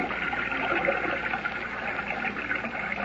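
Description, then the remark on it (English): Continuous sloshing and churning of water, steady, as someone wades through a river toward the shore, with no voices present. “Now I can wade ashore and revive Lois and Jimmy.”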